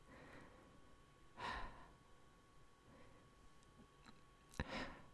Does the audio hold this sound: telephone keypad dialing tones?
no